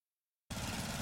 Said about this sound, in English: Babes, what are you doing? What? I'm just mowing the lawn. No, it's blazing hot and dry out here.